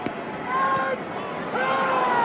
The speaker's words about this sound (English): Does he scream after every strike? That's the home plate umpire on strike two. And not only does he scream at the top of his lungs, he does the splits.